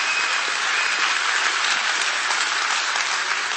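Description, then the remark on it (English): A church audience gives the Lord a hand clap after a sermon, clapping steadily, many hands blending into a dense, even wash of applause that holds at the same loud level throughout, with no voices standing out. “Give the Lord a hand clap if you did.”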